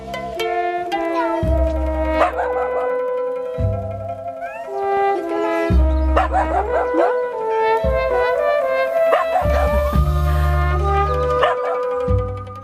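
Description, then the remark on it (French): Several stray dogs in an Italian city howl and yelp together in long, wavering, rising and falling cries, with bursts of barking mixed in. The chorus is fairly loud and continuous, with no talking. “Les Italiens aiment particulièrement les animaux de compagnie, ce qui n'empêche pas la multiplication de chiens errants dans les villes.”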